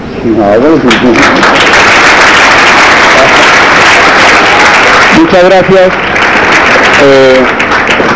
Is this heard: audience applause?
yes